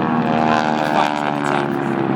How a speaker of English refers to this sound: There's about six planes at the moment. So there's about six aeroplanes, you say?